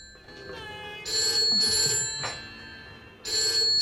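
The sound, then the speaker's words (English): A telephone on a table at home rings in repeated electronic bursts, loud and close, with a short pause between rings and faint background noise underneath; no one speaks. “she walks over to the phone on a table close by. Hello?”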